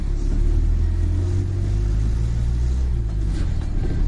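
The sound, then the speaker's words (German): A bus engine drones steadily, a deep low rumble with rising tonal bands as it pulls and accelerates, driving from the city centre of Shenzhen, China, through dusty industrial areas and residential districts, with no voices over it. “Vom Stadtzentrum quält sich der Bus 2 Stunden durch staubige Industriegebiete und Wohnviertel, bis er im Vorort Lungang an einem kleinen Platz anhält.”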